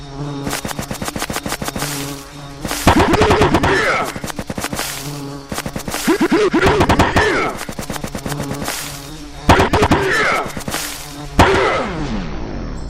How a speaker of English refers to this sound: Oh no! What is that? It's the Queen Bee! I've never seen a such big bee before. Maybe I'll have to fight her.